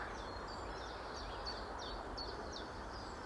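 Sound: birds calling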